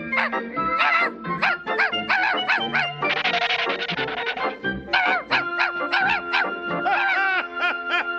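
A small dog, a puppy, barks and yips in quick, high-pitched, loud bursts, with a brief scuffling, noisy stretch in the middle before the rapid yapping resumes.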